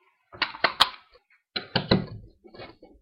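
A metal locker door holding bags and jackets clatters shut with a few sharp knocks, followed by rattling and clicking as it is latched and locked with a lock, with no one speaking.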